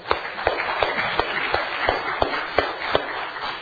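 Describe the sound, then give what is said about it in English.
A crowd applauds the cleanup crew, a steady, dense wash of clapping with a few sharper, louder claps popping out at fairly even intervals. No one speaks. “The ladies who did a wonderful job decorating, and then the cleanup crew efforts just really, really do need a hand of applause.”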